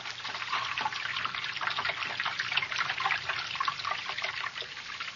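trickling water

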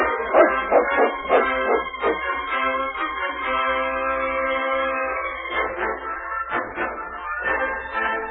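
dog barking

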